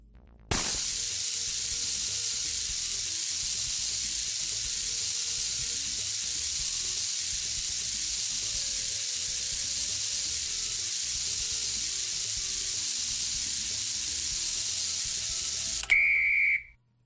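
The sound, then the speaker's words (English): A burning fuse, a wick connected to explosive materials in a game round, sizzles with a steady, unbroken hiss and a faint high whine for about fifteen seconds, then cuts off abruptly with a sharp click and a brief tone. “a fire will be put onto the wick which is connected to some explosive materials”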